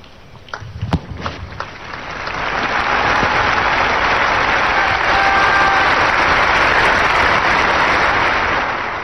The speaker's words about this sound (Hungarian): A nagy tapsból ki lehet venni, hogy sokan voltak jelen ma a vatikáni Szent Péter téren.